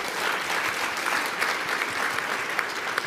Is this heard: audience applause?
yes